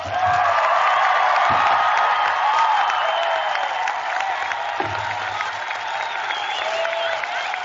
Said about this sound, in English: Their hats up in the air. Big round of applause. The Northfield High School class of 2018 has now graduated.